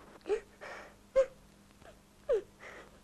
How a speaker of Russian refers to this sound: Почему ты плачешь?